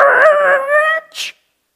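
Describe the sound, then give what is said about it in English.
A speaker reading from Genesis imitates the sound of needles screeching to a halt on records: a loud, sustained, pitched vocal screech that wavers slightly, then cuts off into a short breathy hiss. No other sounds. “And if you had been listening from the very beginning, this would sound to you like the sound of a million needles screeching to a halt on a million records all at once.”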